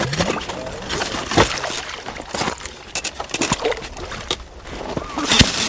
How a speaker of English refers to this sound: Ice cubes the size of 18-inch television sets float in the dark patch of exposed water. It takes three men to operate a homemade cedar lever with metal pincers on one end that haul the cakes of ice out of the water.